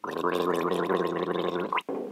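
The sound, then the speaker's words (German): Someone gargles a sip of water with the head tilted back, as an exercise for the uvular R: a loud, continuous bubbling rattle for nearly two seconds, breaking off abruptly before a brief softer burst of gurgling at the end. “Dann nehme ich einen Schluck, lege den Kopf in den Nacken und gurgle.”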